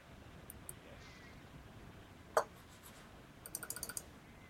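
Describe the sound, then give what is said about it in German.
Vigorous clicking of a battery-powered computer mouse button: one sharp click, a short pause, then a quick burst of several crisp clicks in a row against a quiet background. “Sie hören ein energisches Klicken, aber es tut sich immer noch nichts.”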